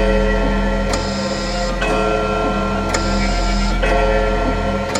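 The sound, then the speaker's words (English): An ebony clock ticks in a slow, steady rhythm, about one sharp tick per second, over a constant droning, ringing tone. No one speaks. “All silent save the voice of the clock.”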